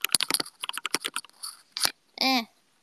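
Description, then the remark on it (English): Quick, irregular bursts of clacky keystrokes on a new keyboard, typed at about 90 words per minute, fairly loud for about two seconds, followed by a brief tonal squeak at the end. “God, I love this keyboard.”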